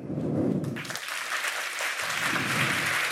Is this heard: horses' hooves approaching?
no